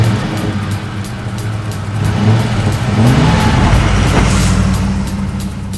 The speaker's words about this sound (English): Alone in the pickup truck, Joe drives off.